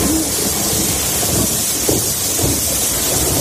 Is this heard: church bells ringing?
no